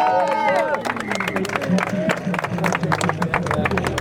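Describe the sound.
A crowd applauds cyclist Paul Sixt at the Tour de France, dense, steady clapping for about four seconds, mixed with a hubbub of voices and a high cheer or whistle at the start.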